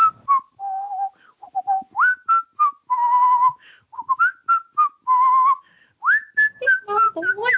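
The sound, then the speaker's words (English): Someone whistles the tune of Jingle Bells alone, a bright melody of short, clear notes with a few longer held tones and quick upward slides, steady in rhythm and fairly loud. “All right, next one is Jingle Bells.”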